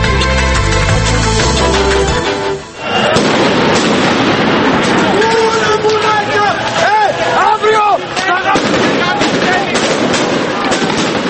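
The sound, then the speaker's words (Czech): Chaotic street clash between police and protesters in central Athens, Greece, late at night: a crowd shouts and roars while sharp bangs and whistling, firework-like blasts go off repeatedly, loud, with rising and falling wails cutting through the din. “Zvuci koje ste čuli dolaze iz Atine, u kojoj su do kasno u noć nastavljeni sukobi policije i demonstranata, nezadovoljnih usvajanjem novih, oštrijih mera štednje.”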